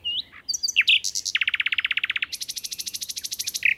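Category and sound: bird, nightingale song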